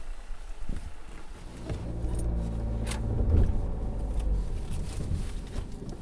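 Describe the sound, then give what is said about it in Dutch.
A car engine turns over and settles into a steady low rumble that swells as the vehicle pulls away, with a few metallic jingles and clicks at the start. No one speaks. “Kunnen daar naartoe rijden?”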